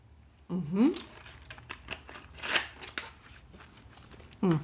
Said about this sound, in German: Sorry, ich trinke gerade Wasser.